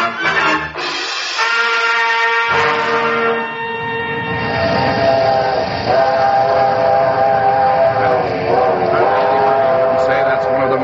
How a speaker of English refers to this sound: The working song of a big steam locomotive. Today you can hear that sound in places where there's never been any form of transportation other than a horse or a camel or a man's back since the dawn of time.